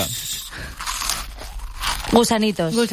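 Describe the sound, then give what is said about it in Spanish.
Loud crunching of plain, flat (not ridged) potato chips being eaten fills the first two seconds in a run of crisp, irregular bites, then a voice starts talking over the end. “Primer producto... Patatas. Una patata. Correcto, con el récord. Venga. Y son lisas, no onduladas.”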